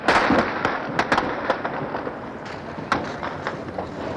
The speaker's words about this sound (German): Lasst das Schießen sein! Treibt es nicht auf die Spitze! Schüsse am Potsdamer Platz. Wir können von hier aus nicht beobachten, wohin geschossen wird und ob diese Schüsse aus russischen oder von Karabinern der Volkspolizei stammen.